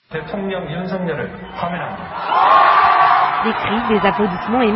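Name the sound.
crowd cheering and applause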